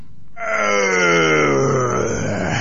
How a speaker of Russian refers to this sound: Увидал змей Горыныч Добрынюшку, бросил мертвое тело на земь, зарычал громким голосом.